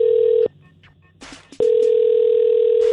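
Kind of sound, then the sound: signal or alarm, telephone call ringing through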